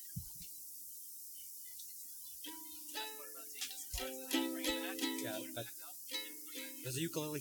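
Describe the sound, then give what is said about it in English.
A ukulele being tuned: a low hum at first, then single strings plucked again and again, notes ringing and shifting slightly in pitch, moderately quiet. “Does the ukulele sound better now?”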